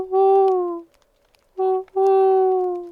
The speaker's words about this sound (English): It is evening, an owl hooting in the distance.